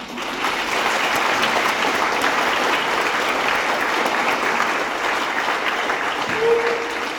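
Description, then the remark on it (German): An audience at a women's breakfast meeting (Frühstückstreffen für Frauen) applauds the volunteer staff steadily for several seconds, a dense, even wash of clapping that holds at the same loudness throughout, with a faint voice briefly audible near the end. “Ich finde, wir klatschen da mal.”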